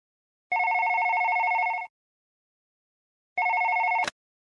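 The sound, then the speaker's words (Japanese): A telephone rings with a steady electronic trill in two bursts, the first lasting over a second, the second cut short by a click as it is picked up. No one speaks. “大丈夫だと思いますけど、後で電話します。”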